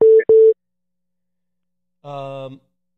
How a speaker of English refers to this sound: I got to somehow end the phone call with you because Bobby's beeping in.